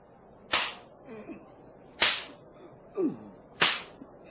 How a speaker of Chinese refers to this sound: 我虽然查不出他的过失，仍要下令鞭打他。士兵们，剥下他衣服，绑在柱子上，开始用鞭子狠狠地打。